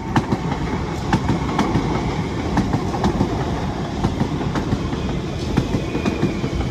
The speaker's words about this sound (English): You can hear the ding-a-ling of the Ripponlea boom gates. Trains coming past. Let's watch this train go past.